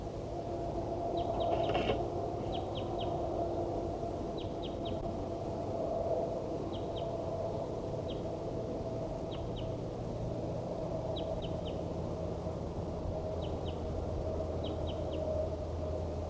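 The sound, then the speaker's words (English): A wild bird calls in short repeated bursts of two to four high, quick chirps, spaced a second or two apart, with bird 4-7 responding, over a steady low rumble of background noise. “These are vocalizations of a wild bird.”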